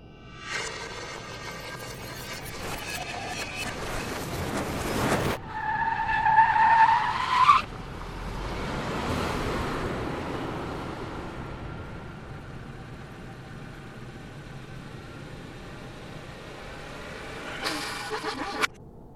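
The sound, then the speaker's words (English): A car crash played backwards: smeared, swelling noise and a rising tire screech build unnaturally, ending in abrupt bursts instead of an impact. No voices. “Here's the same car accident, but in reverse.”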